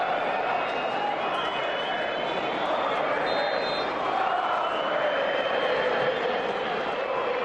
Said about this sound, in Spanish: La celebración de Courtois tras el gol del Madrid gritando vamos y mirando a la grada rojiblanca no sentó nada bien en el sector más ultra, que segundos antes coreaba esto que vamos a escuchar también.